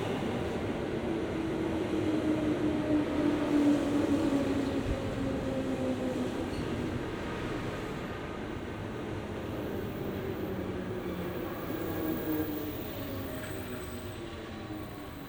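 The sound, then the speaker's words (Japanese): A train, seemingly running with no conductor or driver, rumbles steadily along the tracks, loud, with a low continuous roar and faint tonal whines from the wheels and engine, no voices present. “驚いた。電車ね。”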